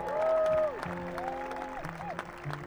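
A live audience breaks into steady applause for the mandolin player, a dense patter of clapping, while a sustained, sliding instrumental tone rings out over it at the start.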